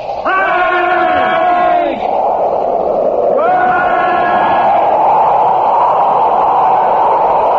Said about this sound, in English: Come on, boys, yell together. They didn't hear us.